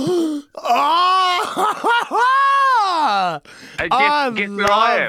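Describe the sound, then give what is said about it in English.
Heavy open-mouth breathing of a man asleep on a plane: loud, drawn-out groaning moans that rise and fall in pitch, nearly continuous, with a couple of brief breaks. “he does lots of open mouth breathing. Oh, I've got the video.”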